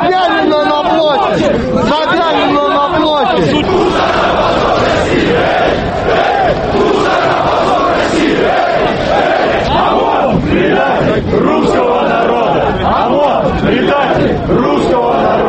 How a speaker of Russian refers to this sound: Мы не можем по этическим соображениям привести здесь все лозунги, которые выкрикивали собравшиеся, многие из кричалок включают бранные слова. Также собравшиеся требовали встречи с мэром Москвы и выражали свое недовольство действиями милиции.